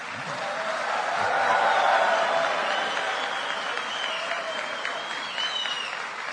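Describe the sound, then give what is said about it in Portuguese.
A crowd applauds steadily for several seconds at a swearing-in ceremony, a dense wash of clapping that swells early and then holds at an even level, with faint voices and cheers mixed in. “Vocês viram como eu sei arrancar aplausos, né?”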